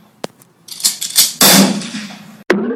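Two sharp gunshots crack out about two seconds apart, separated by a loud burst of harsh, noisy clatter and rumble. No one speaks.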